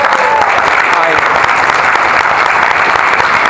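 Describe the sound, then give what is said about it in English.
A crowd applauds steadily, a dense wash of many hands clapping at an even, loud level for the whole stretch, with no voices standing out above it. “Only this audience would applaud something so utterly pathetic.”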